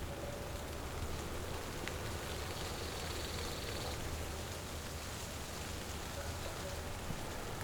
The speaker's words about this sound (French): Pluie fine, chlorophylle, la montagne est là, à vos oreilles.